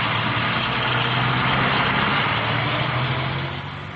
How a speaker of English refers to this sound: But Dobwalls and Double Boys were due for more shocks. The soldiers piled into their Bedford lorries and rode away.